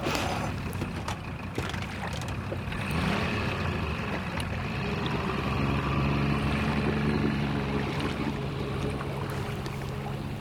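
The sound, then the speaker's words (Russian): A rowing boat carrying passengers across to the other bank in the evening moves steadily across water, with a continuous wash of water and wind noise and a faint low hum building partway through. No one speaks. “Прыгайте в лодку.”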